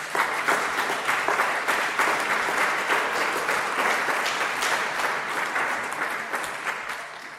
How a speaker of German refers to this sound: Ich würde jetzt aber schon vorab einmal für einen Applaus, um einen Applaus bitten für die Kinder.